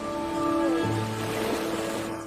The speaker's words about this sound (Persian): سکوت. فقط صدای دریا.